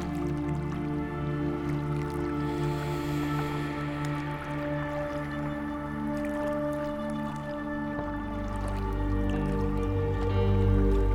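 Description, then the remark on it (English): Gentle river water flows steadily past a riverbank, with soft drips and wet swishing, blended with a low, sustained hum that swells slightly toward the end. No one speaks. “Imagine sitting on the riverbank, just basking in the warmth of the sun, taking in the smells of the nearby wildflowers, and listening as the water gently pushes past you.”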